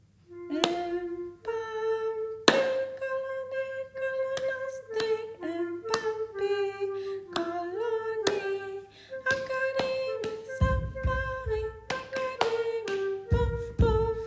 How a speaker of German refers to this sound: Wir können es ja erst einmal mit der Querflöte zusammen singen und dann noch einmal mit ihr zusammen das Klatschspiel machen. So, und jetzt nochmal mit Klatschen.